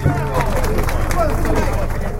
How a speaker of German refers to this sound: Am Ende ist der Applaus eher lau.